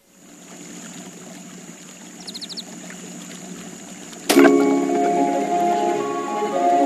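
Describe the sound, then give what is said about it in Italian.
A steady, moderate rush of flowing river water in a valley between Jesi and Fabriano, with no voices. Partway through, a sudden louder layer with sustained tones joins the continuous water sound. “Sognerò un fiume lungo che attraversa un'antica valle. Sognerò acqua per 2 chilometri, magie della natura.”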